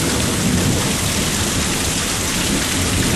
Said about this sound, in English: Yeah, I'm gonna go out here and get this rain. There goes power again. Sitting under my carport with the rain and thunder and stuff going on. This is great.